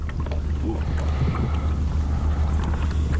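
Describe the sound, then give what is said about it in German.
Rowing boats on open water, with other boats catching up while one boat pauses mid-water after hours of rowing: a steady wash of water and low wind rumble with faint splashes running throughout, fairly loud and continuous, with no voices. “Die anderen Boote schließen auf.”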